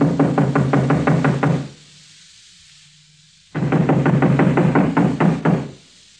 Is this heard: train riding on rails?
no